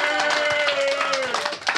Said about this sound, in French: Et on l'applaudit bien fort.